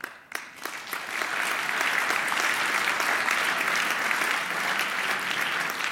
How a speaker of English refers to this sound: You are aware with your applause interruptions that we have limited time here, huh?